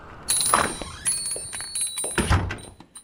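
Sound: front door being shut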